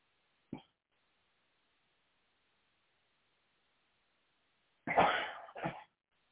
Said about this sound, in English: I don't know what's going around today, but it's causing me to sneeze.